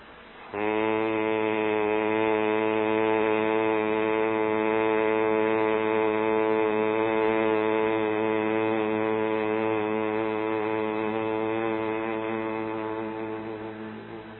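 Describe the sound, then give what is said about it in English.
A single long, steady closed-mouth hum on one low pitch, made on an exhale through the nose as a pranayama breathing exercise, sustained loudly for about fourteen seconds before slowly fading at the end. “Take a deep breath, and then as you exhale, but with the mouth closed, you make this sound.”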